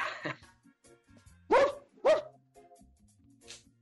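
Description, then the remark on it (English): A dog barks twice in quick succession, loud and clear, with a soft yip or whine at the start and a faint sound near the end; no one speaks. “he's got a dog in the background, man.”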